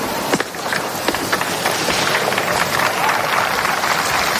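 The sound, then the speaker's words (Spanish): Dense, steady clapping from a crowd at the police centenary events before the King and Queen of Spain. They applaud a police parachutist who fell after a rough landing in the Plaza de la Armería of the Royal Palace. A continuous crackling wash of many hands, with a few sharper claps early on, sustained at even loudness. “Se cae, pero lógicamente la gente aplaude.”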